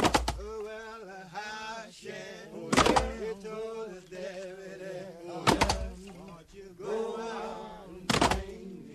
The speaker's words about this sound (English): a recording of a group of black men in prison chopping logs